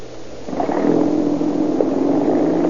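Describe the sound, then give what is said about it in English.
A police patrol car's engine rises into a steady rumble and holds as the car pulls away, moderately loud, a low continuous drone with no voices. “Okay, hop in. Let's get going.”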